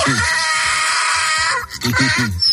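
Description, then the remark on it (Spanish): A donkey brays loudly in a harsh, rasping run of repeated hee-haw cries, pausing briefly before another strained burst of braying rises again. “Lo normal en casa es tener un perro, un canario, un hámster, pero a ti, Pulpo, se te hubiera ocurrido tener un burrito.”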